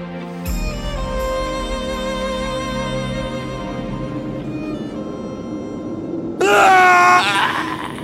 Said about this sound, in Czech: Ticho v řesoviště protěl děsivý výkřik. Táhlé zaskučení plné hrůzy a úzkosti. Ten strašný zvuk mi zmrazil krev v žilách.